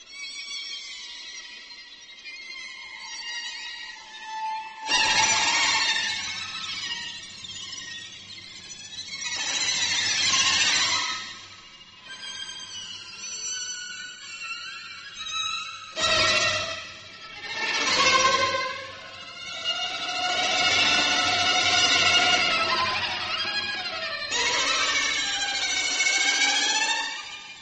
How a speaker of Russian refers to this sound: Это квартет, который имеет подзаголовок «13 картин из страны тьмы». Он написан в 70-х годах в памяти жертв Вьетнамской войны. Это очень серьезное произведение, очень, сказал бы, страшное, оно так и звучит.